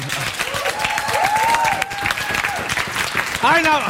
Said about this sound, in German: Ich wollte mal ganz kurz hier... Kleiner Applaus bitte für ….